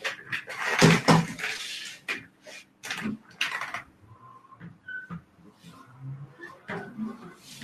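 A guitar cupboard door is opened and things are shuffled and knocked about inside as someone fetches a tally, with a burst of clattering handling noise early on and quieter rummaging thumps afterward.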